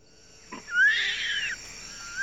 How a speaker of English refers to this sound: Goodness, it's a baby. A baby orangutan. How cute. It's surely looking for its mother.